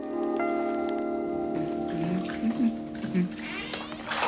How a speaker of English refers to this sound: Mark's having a bubble bath. As Jean walks in, he lifts his hands out of the water.